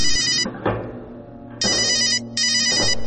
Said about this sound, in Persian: تلفنم زنگ میخوره و مشغول حرف زدن میشم